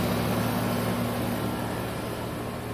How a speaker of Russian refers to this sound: Так, дворик такой. Кондиционер работает.